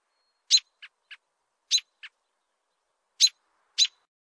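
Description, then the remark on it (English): An American robin sings alone in short, clear, loud whistled phrases, delivered in small bursts of two or three notes separated by brief pauses. “As a bonus to the readers of our recorded version of the Monitor, here are recordings of the birds mentioned in the article above. The American Robin.”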